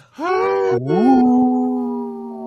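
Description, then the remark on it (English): A single low animal howl, loud, starting with a brief dip then rising and holding as a long, steady tone for about two seconds, with no talking. “has a low howl. Did you hear that?”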